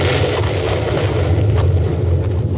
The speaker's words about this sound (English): A tremendous explosion rocked the great mountain.